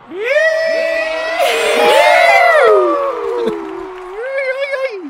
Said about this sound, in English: and the rest of the graduates toss their caps in the air, we hear a rebel yell of excitement reverberate through the stadium.